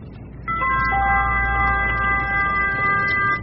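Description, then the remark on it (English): A house doorbell rings out as an electronic chime: several clear, steady tones enter one after another and hold together for about three seconds over a low background hum, with no talking. “Ring the bell.”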